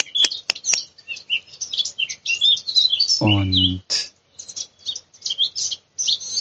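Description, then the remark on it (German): Blackcaps singing among small rowan trees in continuous, bright warbling phrases with rapid high twitters, while a man says a single short word partway through. “Und die ganze Zeit sind hier die Mönchsgrasmücken um mich herum unterwegs und singen.”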